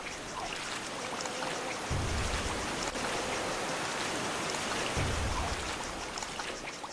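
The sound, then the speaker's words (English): A geyser in a video game gushes water in a steady, loud, hissing rush that fills the whole clip, with two deeper rumbling surges partway through and no voices. “Let's walk away from the geyser.”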